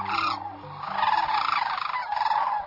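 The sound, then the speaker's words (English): A courting pair of sandhill cranes calls together in unison at sunrise on a southwestern marsh in late February, in loud, rolling, trumpeting bursts, their rattling voices overlapping continuously, with no talking. “In the rosy glow of a sunrise on a southwestern marsh, a pair of sandhill cranes calls in unison.”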